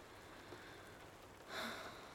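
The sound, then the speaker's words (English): Soft, steady rain hisses faintly and evenly throughout, swelling briefly a little louder near the end before settling back to a gentle patter. No voices are heard. “Oh, I love the rain, the sound of it.”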